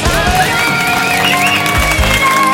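Loud, steady applause from a live audience at a public recording of the Europe 1 radio show L'équipe est sauvage, a dense wash of clapping with a bright musical tone drifting over it and low thumps underneath.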